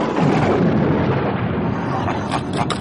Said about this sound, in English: We aren't frightened of a perfectly normal thunderstorm!